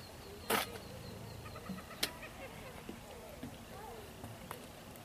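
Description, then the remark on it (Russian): Soft birdsong outdoors at a quiet, peaceful fishing spot, with scattered chirps and short trilling calls, along with a couple of sharp knocks and a low background murmur. “Слышите, птички поют.”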